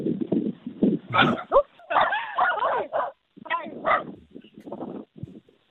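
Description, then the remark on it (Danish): A dog yips, barks and whimpers in a string of short, excited bursts lasting several seconds, with brief pauses between the sounds. “Er du lige blevet angrebet af en hund?”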